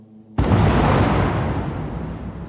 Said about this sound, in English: It's the middle of the night in Gaza City, but Israeli troops do not rest. A surveillance drone roams the sky as tanks fire at homes and buildings here.